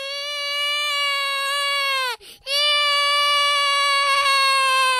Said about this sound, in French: s'est mis à pleurer comme un bébé.